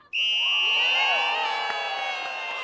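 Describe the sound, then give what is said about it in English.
A crowd of families, among hundreds of neighbors gathered in front of a wall in the evening, suddenly bursts into loud, high-pitched cheering and whooping as the wall's lights flick on, the shouts starting all at once and holding strong for a few seconds with no speech. “The lights flick on and the families cheer.”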